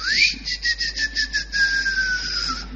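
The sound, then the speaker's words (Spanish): A man whistles to call his wife back home: a loud quick warbling trill of about seven pulses, then a long, steady note that slowly slides downward before stopping. “Un tipo que para decir que hay que volver a casa le chifla.”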